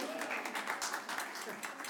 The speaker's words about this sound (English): Amen. Let's give a clap there.